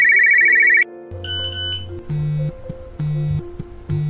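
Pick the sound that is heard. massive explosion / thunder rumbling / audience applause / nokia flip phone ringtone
nokia flip phone ringtone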